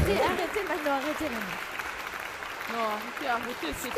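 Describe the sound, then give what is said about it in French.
Steady, dense applause from an audience fills the whole stretch at a moderate level, with a few voices speaking over the clapping. “Oh là là, n'empêche, non, ça mérite des applaudissements quand même.”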